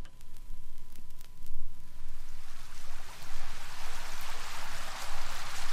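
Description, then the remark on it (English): Steady running water and rain rush and hiss without pause, swelling into a fuller, brighter wash after the first couple of seconds. There are no voices. “Hear the water? Hear the rain?”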